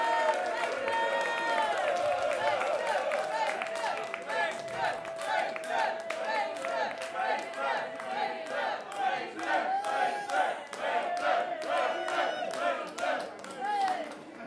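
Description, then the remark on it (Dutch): A large festival audience at a Stichting Slim festival claps and cheers loudly for several seconds, with dense rapid applause and scattered shouts and whoops rising over it, sustained throughout. “Jongens, even een kleine applaus voor Peter.”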